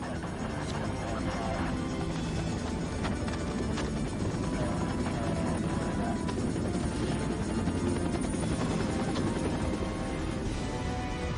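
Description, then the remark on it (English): A Black Hawk helicopter on surveillance churns loudly and steadily, its rotor thumping in a dense, rapid pulse that fills the whole stretch without fading, as if hovering overhead. “We were under fixed wing and Black Hawk helicopter surveillance as well.”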